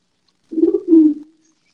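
A bird, heard through an open screen door, gives a low, throaty two-part coo, like a pigeon or dove, lasting about a second at moderate loudness with nothing else around it; it is calling because it can hear another bird.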